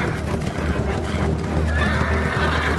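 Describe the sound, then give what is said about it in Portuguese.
Horses neigh and whinny loudly, with a steady clip-clop of hooves running underneath throughout, and no talking. “Absalão mandou preparar para si um carro com cavalos e 50 homens para correrem da sua frente”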